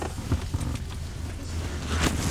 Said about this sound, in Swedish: Jag kliver ur bilen